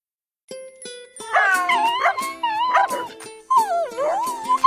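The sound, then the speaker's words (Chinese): Dogs waiting for health checkups at an animal hospital whine and whimper in rising, wavering cries, broken by a few short yips, fairly loud for several seconds over a steady tonal hum, with no one talking. “在动物医院里，有一群等着做健康检查的狗狗们，其中柯基正在帮自己量体重。”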